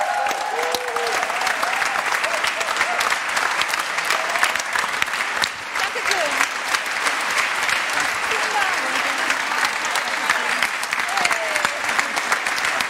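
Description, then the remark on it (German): Sustained audience applause for helpers being called up onto the stage, a dense steady patter of many hands clapping at even loudness for the whole stretch, with a few faint voices and cheers mixed into the crowd noise. “Bitte kommt auch mal auf die super Bühne. Vielen Dank. Applaus.”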